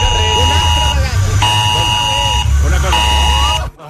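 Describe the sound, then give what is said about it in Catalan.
A mobile phone alarm in Catalonia blares a harsh, steady electronic buzz in repeated long bursts, about three pulses with short breaks, loud and grating, while voices talk underneath. “està fent un tour, l'alarma per tota Catalunya”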